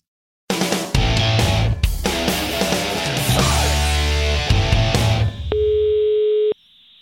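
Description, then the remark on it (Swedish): A dense, loud burst of music-like sound gives way to a single steady telephone ringing tone, about a second long, as a call is placed to someone in Las Vegas, heard clearly on its own before the line goes quiet. “Jag vill ringa nu.”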